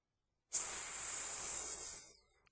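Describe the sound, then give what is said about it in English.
A soldier's armor gives a sudden, steady hiss of escaping air that starts sharply and holds for about a second and a half before tapering off, bright and airy with no voices, as a troop moves through the woods of Windsor State Forest, Massachusetts. “The soldier's armor made an odd hissing sound, but besides the slight sound of metal plates sliding smoothly, flawlessly over one another, the troop was unnaturally quiet as it moved through the woods, getting closer to the prey.”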